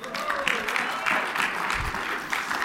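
An audience claps steadily, a dense patter of many hands that stays at an even loudness for a few seconds, with faint voices mixed in beneath the applause.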